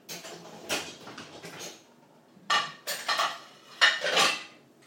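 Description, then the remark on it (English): Greasy plastic containers and dishes clatter and knock together in a kitchen as they are being washed, in irregular bursts of bright, rattling clunks separated by short pauses, with no one speaking. “I have just got to wash these plastics now.”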